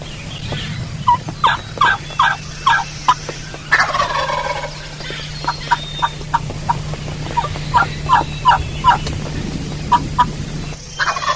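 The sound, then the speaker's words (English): A hunter makes a series of sharp turkey hen yelps and clucks with several different calls, in quick rhythmic bursts, broken by a rolling gobble near the start. The sound is clear over a low steady hum, with no talking. “And as I call, it creates the illusion that the hens are coming to him. If you notice, I use several different calls, different sounds.”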